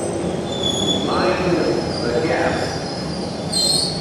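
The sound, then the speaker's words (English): A London Underground train rumbles steadily with high metallic squeals and whines from the wheels rising and falling over a constant low roar, with no speech. “There are several there which are absolutely unique to London, in particular the sounds of the London Underground.”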